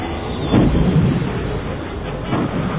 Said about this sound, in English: The paired torpedoes blasted through the conduit, causing a shockwave that rocked the fighter. The glare from the explosion gave Wedge one last glance at the complete destruction of the target.